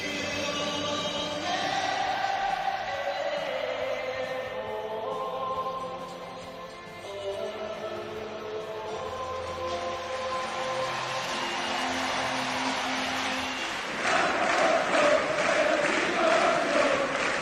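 Liverpool supporters at their own ground, before a pre-season match against Athletic Bilbao, sing together in a sustained, echoing chant, then burst into loud, dense applause and cheering for the final few seconds.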